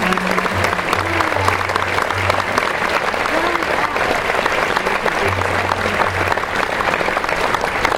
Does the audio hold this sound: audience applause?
yes